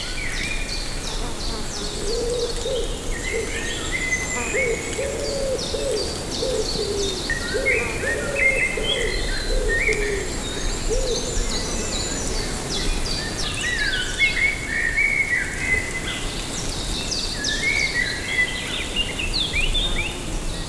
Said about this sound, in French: Le merle ou les merles produisent leurs vocalises.